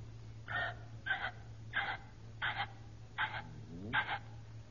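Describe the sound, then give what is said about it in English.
A person imitates a ringneck pheasant call with six short, harsh, evenly spaced squawks over a steady low hum. “Now, now, ringneck pheasant. How does a ringneck pheasant sound?”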